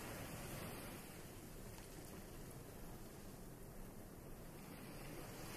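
A steady, soft rush of ocean waves at the seafront rolls on without pause, a broad washing hiss of water with a faint windy edge and no voices.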